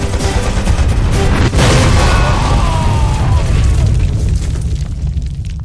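A grenade explodes with a sharp, heavy boom about a second and a half in, blowing a door open, followed by a dense, roaring rumble and crackling debris that slowly fades out.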